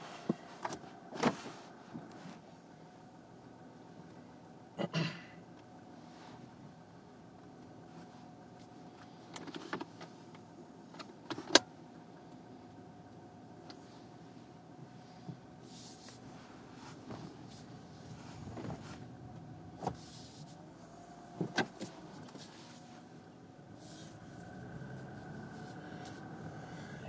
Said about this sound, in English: Okay, let's drive this car.